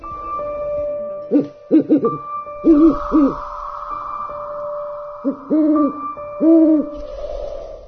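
An owl hoots repeatedly in short clusters of two or three clear calls, over a faint steady background hum with no talking.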